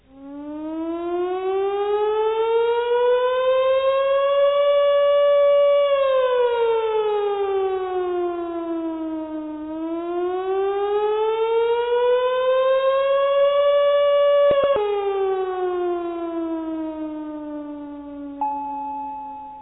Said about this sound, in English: A slight burr or flutter to the sound that enhances the realism of a screaming siren. As it is diagrammed in patch number 29, the best effect will be achieved by playing the second C from the left end of the keyboard.